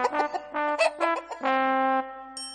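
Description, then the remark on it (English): A voice imitates a common hen clucking: a quick run of short, pitched clucks, then a longer drawn-out squawk, loud, with a brief higher note at the end. “And that's because, ever since goodness knows when, they've always been made from the eggs of a hen. Just a plain common hen.”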